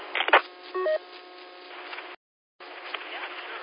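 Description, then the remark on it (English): A short two-step electronic roger beep from a radio microphone on a repeater sounds once over narrow-band, hissy radio static, followed by a brief silent dropout before the static resumes. “That you got a Roger beep, so we'll have to take care of that too.”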